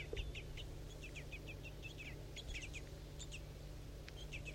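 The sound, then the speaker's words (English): A bird, referred to as 4-3, calls near a nest during feeding, in quick runs of short, high-pitched chirps, repeated steadily over a low, constant background hum, with no one speaking. “That was 4-3's calling now, good.”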